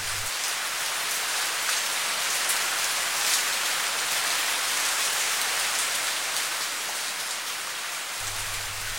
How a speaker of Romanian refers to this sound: A început să plouă. Era mare nevoie.